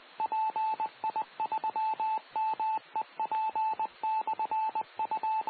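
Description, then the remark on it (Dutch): A steady electronic tone keys on and off in the short and long pulses of Morse code, the automated identification of the Meppel repeater, call sign PI3MEP, sent over a radio channel with a faint hiss behind it. “Nou, je hebt het antwoord al, tenminste als je Morse kent.”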